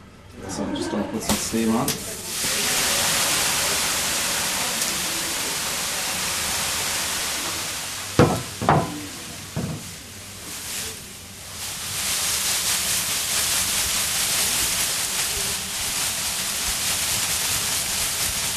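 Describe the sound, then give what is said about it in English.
A loud, steady hiss of steam being put on in a sauna in Ireland fills the sauna almost nonstop, dipping briefly midway while a voice murmurs a few sounds, then surging back to a constant rushing hiss. “So I'm just going to put some steam on.”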